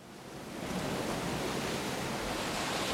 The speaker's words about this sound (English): My favorite place is called the Black Sea. I see people swimming with their families. I feel calm and content. I hear people splashing in the waves.